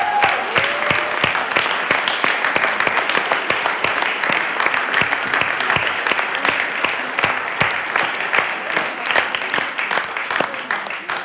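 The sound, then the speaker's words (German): Sustained audience applause for teachers, educators and childcare workers called to the front, a dense steady wash of many hands clapping at an even loudness for the whole stretch, with a faint murmur of voices mixed underneath. “Auch euch gilt ein Applaus.”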